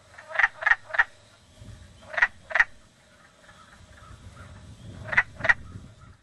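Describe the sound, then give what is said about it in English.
Male wood frogs give short, raspy quack-like breeding-season calls in quick clusters of two or three, repeating several times over a low background rumble, clear with no voices. “During the breeding season, male wood frogs can be heard making quack-like calls day and night.”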